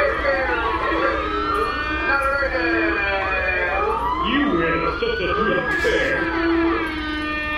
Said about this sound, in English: Yeah, that's my not a virgin alarm going off. Something I came up with myself, so I'm innovating.